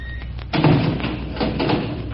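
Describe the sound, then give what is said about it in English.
A door thuds shut, followed by a couple of seconds of rattling and scraping as a key is moved to the inside of the door's lock. No voices. “I've got to change my key to the inside of the door, or I'll never get out when that switch locks it.”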